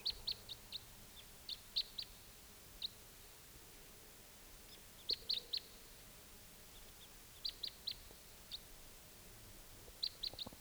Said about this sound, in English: Crossbill's coming. Was a type 2, no sign of it now.